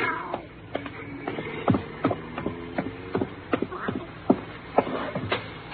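A cat meows a few times, its short cries rising and falling between sharp clicks and shuffling noises, with no one speaking.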